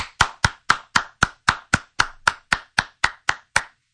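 A person claps their hands as fast as they can to see how many claps fit in eight seconds, quick and steady, about fifteen sharp claps in four seconds at an even rhythm, with no voices.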